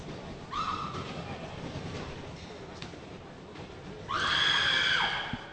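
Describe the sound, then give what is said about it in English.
A shrill, high-pitched scream rings out twice: a short, quieter cry first, then a louder, sustained wail about a second long, over a steady low murmur of background noise; a spectator screaming in a basketball arena while a player shoots free throws. “Somebody screamed and scared me.”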